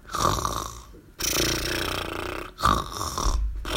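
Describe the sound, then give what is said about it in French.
A voice imitates loud snoring in a few rough, rattling breaths, exaggerated, with brief pauses between each drawn-out snore. “Elle ronflait, tandis que les clowns, les avaleurs de sabres et les hommes serpents effectuaient leur tour”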